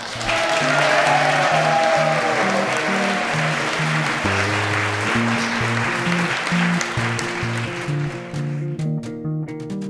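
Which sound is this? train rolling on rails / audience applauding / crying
audience applauding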